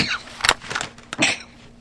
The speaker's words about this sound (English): Pardon, I'm just sneezing at all of this. Pardon me.